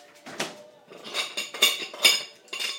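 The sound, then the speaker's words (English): Dishes and cutlery clink and clatter in a series of sharp, bright knocks, several irregular bursts of ceramic and metal contact as items are set into a dishwasher rack, with no talking. “Now, I'm just going to clear up now.”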